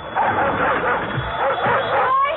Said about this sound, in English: Listen. It's only a dog. What else can he be?